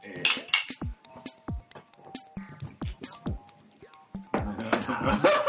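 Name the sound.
glasses clinking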